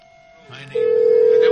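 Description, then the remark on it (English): A telephone line rings out unanswered: a faint higher tone gives way to a loud, steady electronic ringing tone with a low hum beneath it, held unbroken to the end. “No answer there on that number.”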